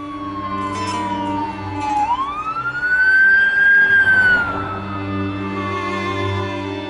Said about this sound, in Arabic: الإسعاف.